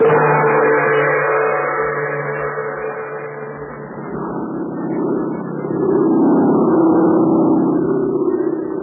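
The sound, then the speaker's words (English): A steady, low airplane engine drones on without a break as the plane flies through the night over China, its throbbing hum holding even and loud with a slight swell in the middle and toward the end. No voices are heard. “Of a plane flying through the blackness of the China night brought Terry and Pat Ryan a new problem.”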